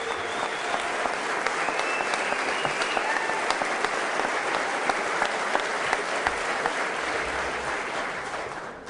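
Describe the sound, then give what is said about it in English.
Sustained applause from lawmakers in the State House legislative chamber, some standing to applaud the governor, dense, steady clapping that holds at an even level for the full nine seconds without fading. “Some lawmakers standing to applaud the governor.”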